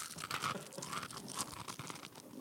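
Crisp, crackly crunching of a fortune cookie being chewed into a microphone, a dense run of sharp bites and brittle snaps lasting a couple of seconds, fairly loud, with no talking.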